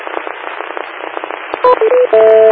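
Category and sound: signal or alarm, radio repeater beep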